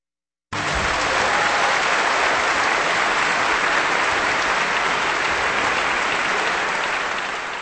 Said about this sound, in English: That applause for the Vienna Philharmonic Orchestra and conductor Zubin Mehta with Morning Papers, a waltz by Johann Strauss, Jr. on Kansas Public Radio.